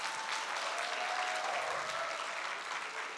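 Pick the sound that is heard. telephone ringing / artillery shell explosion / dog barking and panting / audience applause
audience applause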